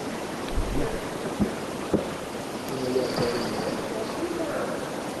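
A few sharp, hollow knocks on trees ring out in a quiet, breezy woodland, followed by a faint, drawn-out yell that sounds like it says "Luther".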